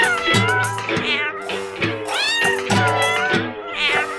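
A cat meows loudly and insistently, several drawn-out, rising and falling cries following one another closely, with no voices present.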